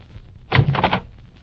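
A harsh, buzzing electric buzzer at an apartment manager's door, pressed and leaned on, sounds once for about half a second, loud and raspy over a faint background hiss, then cuts off.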